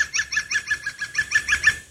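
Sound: green woodpecker laughing call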